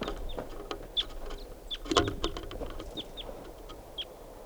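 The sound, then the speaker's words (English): A lone wild bird gives short, high chirps at irregular intervals, about half a dozen calls, fairly faint over a steady background hiss with scattered clicks. “And this is a wild bird, lone bird.”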